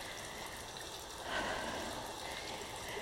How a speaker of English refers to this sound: Well, like I think the rain's easing up a little bit.